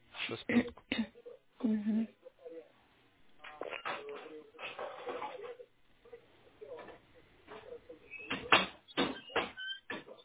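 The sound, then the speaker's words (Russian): A door creaks open in a few drawn-out, squeaky strains, with knocking and handling bumps in between and muffled voices in the background. “Нравится тебе скрипеть дверями, да?”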